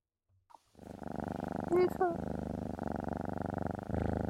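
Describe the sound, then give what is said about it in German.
A steady, rumbling purr, fairly loud, runs continuously for several seconds, interrupted midway by a brief rising vocal squeak; a human voice appears to be imitating a cat's purr. “Katzen kann ihr Schnurren oft nicht beeinflussen.”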